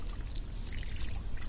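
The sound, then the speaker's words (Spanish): Water runs steadily from a tap, a continuous splashing pour with a low rumbling undertone, fairly loud, with no voices present. “Va, cierra el grifo.”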